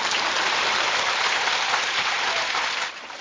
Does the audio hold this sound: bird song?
no